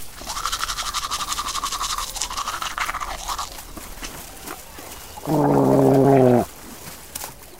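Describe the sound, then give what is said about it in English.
Steady scrubbing of a toothbrush against teeth for a few seconds, then a pause and a short, louder gurgling burst like gargling water. “He's got my toothbrush! This is his toothbrush!”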